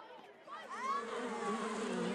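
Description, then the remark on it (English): A steady, droning buzz of bees fills the short scene, continuous, with voices chattering over it. “Dad, I see bees.”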